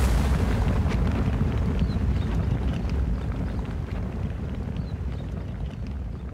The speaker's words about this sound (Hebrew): לפתע נפל פגז במרכז השטח הרפואי. הסורים המשיכו בהפגזה כבדה.